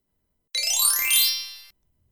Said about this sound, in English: When you hear the chime, turn the page.